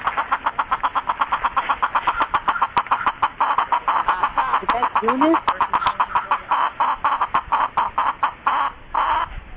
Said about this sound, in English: No, that's one of the chickens that you saw out at Jamestown Settlement today